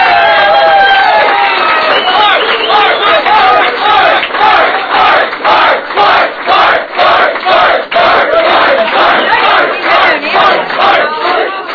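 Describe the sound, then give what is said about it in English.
A loud, excited crowd paid to be bubbly for a CNBC show cheers and shouts together, the roar soon settling into a steady rhythmic pulse of chanting voices that keeps going throughout. “The single most bubbly, effervescent crowd I've ever had.”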